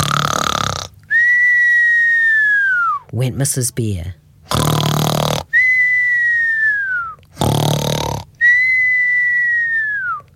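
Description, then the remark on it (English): A voice imitates Mrs. Bear snoring in a bedtime story: three cycles of a loud rasping snort, each followed by a long, high whistle that slowly falls in pitch, with a few quick spoken words in between. “Mrs. Bear began to snore.”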